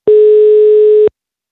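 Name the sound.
telephone ringing tone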